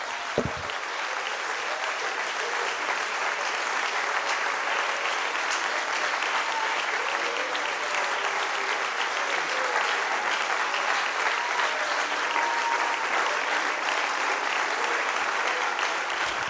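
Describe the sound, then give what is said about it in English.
Sustained, thunderous applause for the Lord from a large audience fills the whole stretch, a dense steady roar of clapping that holds at an even loudness with no talking over it. “Before you're seated, would you lay your Bible down and give the Lord a super duper 30 second thunderous. There you go. Round of applause.”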